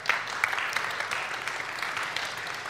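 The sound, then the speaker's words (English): Scattered church audience clapping at news of 25% growth in Grace Kids, a steady bright patter of many hands with a few sharper claps popping out, sustained at moderate volume without any voices over it. “Some of you are clapping because you're not in Grace Kids.”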